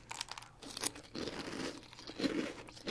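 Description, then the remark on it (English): Dense crunching as crisp breakfast cereal is chewed during a blind taste test comparing brands, a steady run of loud crackly bites and grinding with no talking. “Very crunchy. Very sweet.”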